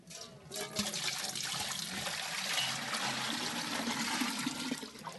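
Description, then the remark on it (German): On a cool morning, water rushes and splashes steadily for several seconds as milking utensils are rinsed with water heated in a large pot over a fire, a fairly loud gush with a bright hiss and some low sloshing, no voices present. “Auf dem Feuer wird ein großer Topf Wasser erhitzt, um zuerst sorgfältig die Melkutensilien und danach die Teetassen zu spülen.”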